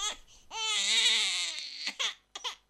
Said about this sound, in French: Vous n'en pouvez plus d'entendre le bébé des voisins pleurer ?